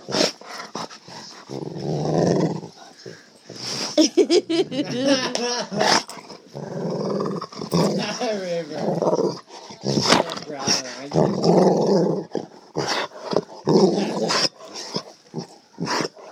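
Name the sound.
dog growling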